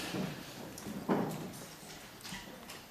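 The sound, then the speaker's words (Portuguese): A single muffled thud of a door being closed, fairly faint, set against a low murmur of room noise with a few soft knocks around it, during a parliamentary debate session. “queria só queria solicitar a um senhor deputado, a uma senhora deputada do Círculo de Faro, se pudesse fechar a porta, dava um importante contributo para o desenvolvimento do nosso debate na especialidade, que a mesa muito agradece.”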